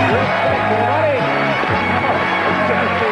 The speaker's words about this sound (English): Wow, they're showing a crowd shot, and two guys got really excited. They, like, stood up and clapped for Chuck.